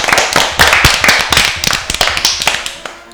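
Applause from an audience for a group of children after they recite poetry, many hands clapping in a quick, dense patter of sharp claps that stays fairly steady and loud throughout, with no voices over it.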